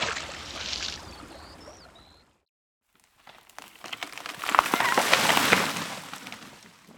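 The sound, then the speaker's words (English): A river flows steadily with a few faint bird chirps, then falls silent for a moment before an axe slides backwards off the riverbank and splashes into the water, followed by loud churning and sloshing that slowly settles. “Before the woodcutter could save it, it slid backwards and fell into the river with a splash.”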